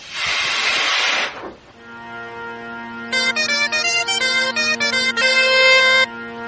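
A loud, breathy cat hiss lasting just over a second, followed after a short pause by sustained, buzzy tonal notes in a choppy, stuttering pattern. No one speaks.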